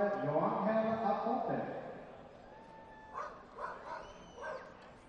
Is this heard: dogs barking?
yes